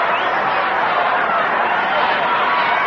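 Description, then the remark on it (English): A noisy crowd of kids at Ebbets Field, stirred by a base hit, fills the ballpark with steady, shrill chatter and shouting, a dense wash of young voices that stays loud and unbroken throughout. “A lot of kids here today, and they're sure letting you know they're here.”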